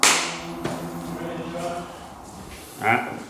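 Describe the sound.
A single sharp, loud hand clap snaps at the very start, like a slate marking a take, followed by indistinct voices murmuring and a softer knock near the end.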